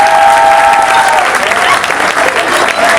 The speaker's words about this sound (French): Sous vos applaudissements, please.